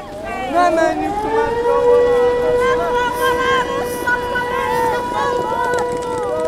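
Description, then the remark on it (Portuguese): A city civil defense air-raid alarm calling on the population to take shelter, on a Friday, wails steadily, its tone rising and then holding a long sustained pitch with rich harmonics, loud throughout, over a faint background murmur of people. “Esse áudio que você ouve é de um alarme na cidade pedindo para a população se abrigar agora na sexta-feira.”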